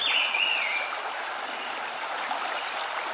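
flowing stream water

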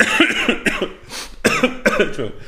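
coughing

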